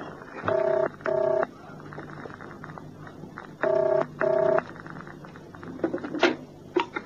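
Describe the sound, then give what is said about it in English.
A telephone ringing tone sounds in two double bursts, brr-brr, a pause, then brr-brr again, clear and steady, followed by a few faint clicks and handling noises, as a call is placed to a flat. “Who are you ringing? My flat.”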